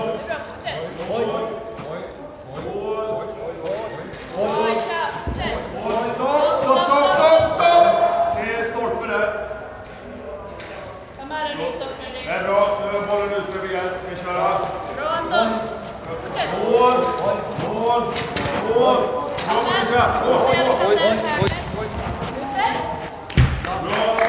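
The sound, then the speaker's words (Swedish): A five-a-side blind football training session: repeated dull ball thumps and scuffling footsteps scattered through the scene, with several voices talking and calling almost throughout. “På five-a-side-träningen så springer jag ihop med en tjej här.”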